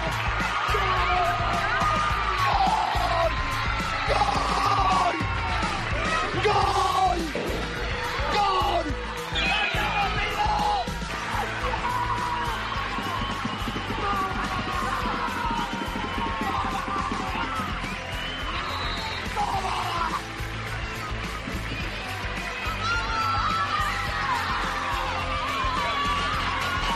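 A man shouts and yells excitedly in loud, strained bursts as he celebrates his team's goals during a match at the Federación field, captured by Movistar, with crowd noise and cheering filling the background throughout.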